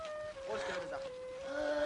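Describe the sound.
A man's voice imitates a cow while he is tied with rope, holding a long, steady, drawn-out moo-like tone that continues for the whole moment, clear.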